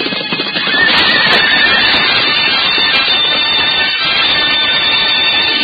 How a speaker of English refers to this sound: Once again, they move toward each other with mortal intent, flying hooves pounding the turf like drums of doom.